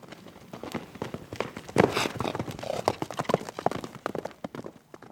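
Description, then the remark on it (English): Horse hooves strike the ground in a quick, uneven series of sharp clops, moderately loud, with a scuffling, busy background and no clear talking. “But I also really enjoyed the sound that it makes when their hooves hit the ground.”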